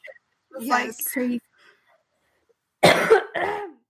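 coughing

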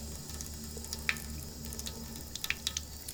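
water running

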